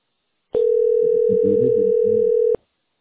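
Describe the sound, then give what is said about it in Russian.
A steady, unbroken telephone dial tone hums for about two seconds before an extension is dialed, starting and cutting off abruptly, with faint muffled sounds underneath. “Говорят, что надо добавочный набрать.”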